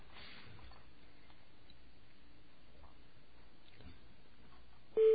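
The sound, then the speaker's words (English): A faint, crackly telephone line hisses with scattered clicks as the call connects, then a loud, steady ringing tone cuts in right at the end. “Ah, it's ringing. That's an interesting ring.”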